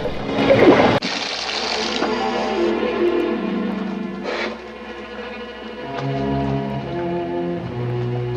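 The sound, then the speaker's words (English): A loud, steady rush of water sprays in through the hull of the submarine Sea View, cracked by a mine explosion, with hissing and gurgling tones shifting as the flow changes, no voices present. “Water sprays in.”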